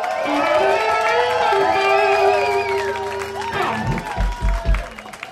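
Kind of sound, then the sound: crowd, audience applause and cheering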